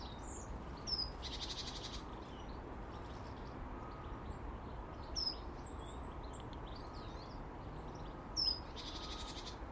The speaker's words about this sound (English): The birds are gathering in the tree. Zzz, in the trees. Just there's so many of them in the apple tree at the moment. That food ain't lasting long. My goodness, they're whacking that stuff down.